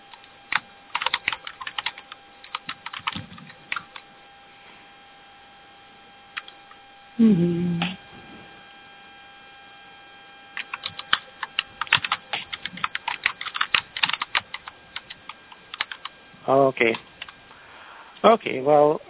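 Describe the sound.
Rapid clicking of a computer keyboard in uneven bursts, close and fairly clear, over a steady electrical hum, with a couple of short voice-like sounds breaking in.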